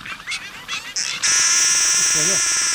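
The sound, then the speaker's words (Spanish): A trumpeter finch calls: a few quick chirps, then a loud, sustained nasal buzz like a small toy horn, held steadily for over a second and a half. “Camachuelo trompetero. Hacía un claxon.”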